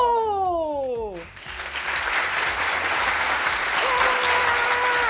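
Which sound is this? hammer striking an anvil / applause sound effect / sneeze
applause sound effect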